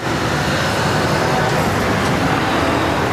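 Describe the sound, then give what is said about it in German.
Steady, loud rumble of heavy road traffic as trucks, around 500 a day, drive to the sugar factory in Anklam: a dense, continuous roar with no pauses and a faint murmur of voices in the background. “Rund 500 Lkw steuern seit September jeden Tag die Zuckerfabrik in Anklam an.”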